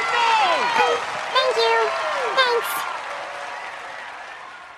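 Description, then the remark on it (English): A large crowd gets to its feet in a standing ovation, clapping steadily in a dense, sustained wash of applause, with excited whoops and cheering voices rising over it early on before the clapping gradually fades. “The girls reluctantly take center stage as the crowd gets to its feet.”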